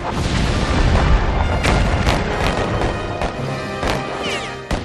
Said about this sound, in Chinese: 而同时港口对面的邦联炮舰亦做好准备，他们的炮声就是开战的信号，港口周围的其他炮舰会一起投入战斗。